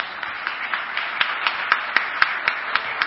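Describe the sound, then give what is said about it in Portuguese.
Applause with a steady, even beat of about four claps per second standing out over a dense wash of hands, moderately loud and sustained throughout, with no voices. “Pode aplaudir, gente.”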